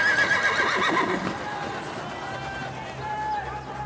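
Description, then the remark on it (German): Small horses pulling wooden wagons carrying soldiers along a street whinny loudly at the start while hooves clip-clop steadily underneath, the sound fading into a busy, rumbling background of movement and murmuring voices. “Soweit Christine schauen kann, überall entdeckt sie Wagen, Pferde und Soldaten.”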